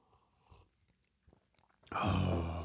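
A few faint mouth clicks and small noises, then a loud slurp of hot coffee right against the microphone, a harsh airy sip that lasts nearly a second, in South Carolina.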